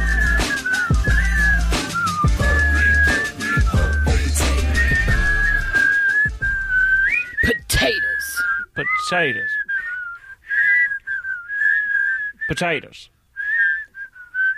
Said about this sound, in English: Hey, I'm sort of whistling, by the way. A little bit. I'm not getting any love for that.